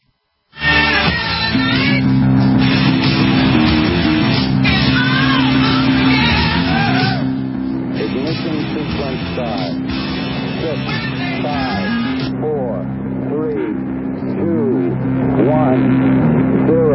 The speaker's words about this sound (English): All engine running. Liftoff. We have a liftoff.